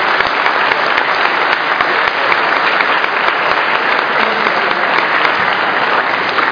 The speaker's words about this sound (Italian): Tra l'altro abbiamo avuto un fine settimana impegnativo, particolarmente impegnativo, quindi credo necessario un doppio applauso a lui e a tutti gli uomini del comando.